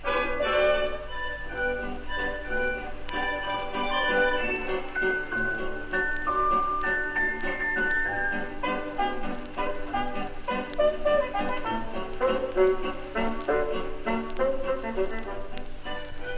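Tinkly old-fashioned music plays steadily from a gramophone record from the Musikhaus Hoppe music shop, a bright melody over a faint crackling hiss, continuing without a break and with no voices.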